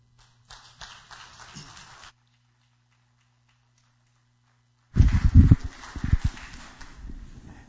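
Audience applause in two bursts: a short, softer patter of clapping, a pause with a faint low hum, then a louder, denser round of many hands clapping that gradually thins out.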